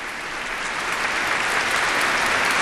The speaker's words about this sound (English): Now a round of applause, and the congregation rises for the Reverend Billy Graham and his remarks of hope and courage. Reverend Graham accepting the applause, shaking hands with the other religious leaders on hand today,